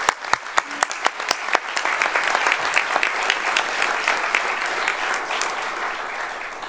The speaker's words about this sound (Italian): Ecco, io farei un applauso a tutte le persone.